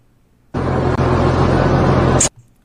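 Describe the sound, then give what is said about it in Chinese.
A loud rumbling roar of a large truck's engine as a large truck approaches, with a low droning hum, cutting in suddenly, holding steady for under two seconds, then stopping abruptly. No one speaks. “好，你看这里，他呢看到呢有这个大卡车过来的时候，你看他首先怎么样？”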